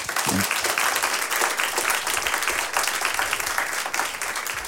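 Loud, steady applause from an audience for a band, a dense wash of many hands clapping at once that holds at a constant level for the full few seconds without pause.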